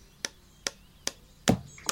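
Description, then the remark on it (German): Hammer blows on wood as a tree house is built in a garden, five sharp knocks at a steady pace of about two per second, the fourth heavier and more resonant than the rest, with no voices. “Den ganzen Tag ist aus dem Garten geschäftiges Treiben, Hämmern und Rufen zu hören.”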